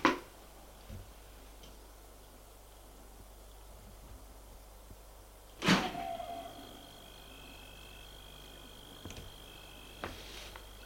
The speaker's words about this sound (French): Il ouvre la porte-fenêtre.